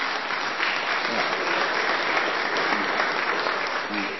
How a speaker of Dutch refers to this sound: Ja, jullie klappen voor jullie zelf, hè?